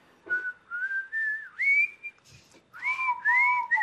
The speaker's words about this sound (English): I like it when you harmonize with me on the whistling.